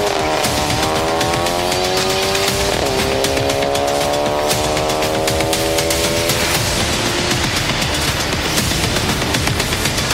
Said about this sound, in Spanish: Ambos suben al auto y se van, alejándose rápidamente.